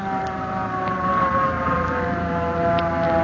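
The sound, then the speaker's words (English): A hook and ladder fire truck siren blares loudly and steadily, holding a sustained wailing tone over a rumbling engine background, with no voices heard. “Hey, look at the fire engine.”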